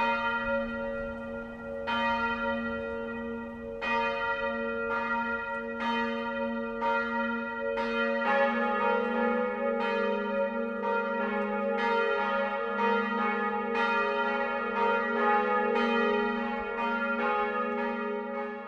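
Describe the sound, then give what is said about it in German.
Church bells of the town parish church Mariä Himmelfahrt in Eichach ringing the 12 o'clock midday chime, with repeated resonant strikes every couple of seconds that build into a fuller, overlapping peal of several bells, steady and fairly loud, with no voices. “Das Mittagsläuten kommt heute von der Stadtpfarrkirche Mariä Himmelfahrt in Eichach.”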